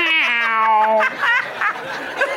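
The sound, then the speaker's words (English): A person imitates the meow of an older, tired cat, a long sagging tonal wail that trails off into softer breathy vocal sounds, fairly loud. “older, tired cat voice.”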